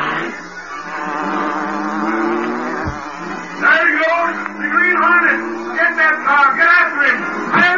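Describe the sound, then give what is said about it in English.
The engine of the Black Beauty, the Green Hornet's car, makes a distinctive buzzing hum that drones steadily throughout, its pitch wavering and swelling higher in the second half, loud and continuous with no one talking. “Then he heard the well-known sound of the Black Beauty.”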